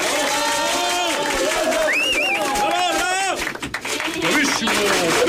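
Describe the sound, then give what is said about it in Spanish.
A crowd applauds for the children, their accompanying adults, pets and dolls, with steady, dense clapping mixed with many overlapping voices cheering and calling out, holding loud throughout with a brief dip in the middle. “Pido para ellos, niños y niñas, y los adultos que los acompañan, así como sus mascotas, muñecos y muñecas, un fuerte aplauso.”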